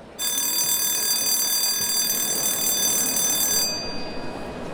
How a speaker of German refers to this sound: Oh, jetzt hat es schon zum dritten Mal geklingelt. Das bedeutet, dass es gleich losgeht.